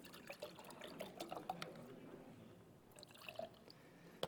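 Liquid trickles and splashes as a drink is poured into a cup, a steady pouring sound with small clinks and drips, fairly quiet and continuous for a few seconds with no talking.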